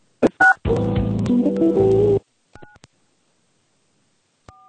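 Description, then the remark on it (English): Telephone keypad tones beep as a 10-digit account number is dialed into a phone conference line: a few short dual-tone presses spaced irregularly, with a longer buzzy tonal passage early on, then quiet gaps before the final press. “Please dial your 10-digit account number.”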